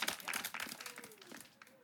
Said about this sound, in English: Why are you clapping? It's a gap.